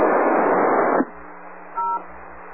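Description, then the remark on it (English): A second of harsh ham radio static cuts off to a quiet hiss, followed by a single short touch-tone beep, a WIRES access DTMF tone, over the transmission. No one speaks. “You're probably using a Yaesu radio and you've got the wires access CTMF tone on there, so probably want to get that turned off there.”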